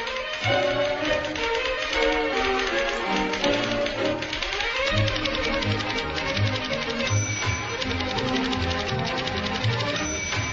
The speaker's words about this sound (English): And when I thought about what audio clip best illustrates a typewriter that people would know, let's listen to this one.